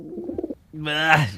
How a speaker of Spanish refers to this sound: Creo que he pillado una paloma.